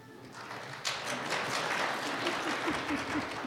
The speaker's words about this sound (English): Now, down in Mexico, we would say aplauso, aplauso, and everybody would applaud